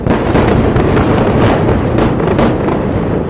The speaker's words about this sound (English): Huge explosions shook the sky near Beirut's main airport.